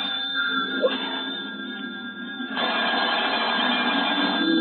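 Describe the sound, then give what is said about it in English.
A telephone bell rings steadily with a harsh, buzzing tone, fairly loud, growing louder partway through. No voices are heard. “Don't answer. Hello? Yeah? Gus there. Why? No. Give me that phone.”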